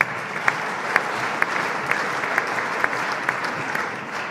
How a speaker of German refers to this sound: Auf alle Fälle einen kurzen Applaus, bitte.